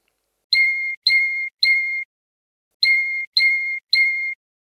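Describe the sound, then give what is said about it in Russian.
A Russian canary sings the otboy, the closing part of its song: bright, ringing notes like light hammer strikes, three evenly spaced high tones, a short pause, then three more, clear and steady against silence. “Отбой – это звонкие удары молоточком, передаваемые словами как «тон-тон-тон» или «цон-цон-цон».”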